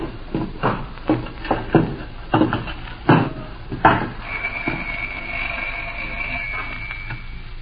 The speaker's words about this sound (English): Well, the door's open. Should we go in?